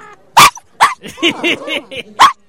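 A dog named Scooter barks, loud sharp barks separated by short whiny, yelping vocal sounds, all within a couple of seconds with no talking over it.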